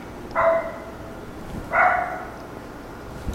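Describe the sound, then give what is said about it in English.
A dog belonging to a veterinarian in a crowd barks twice during a sermon, with a pause of over a second between the loud, sharp barks, against a quiet background murmur. “So whose dog is that?”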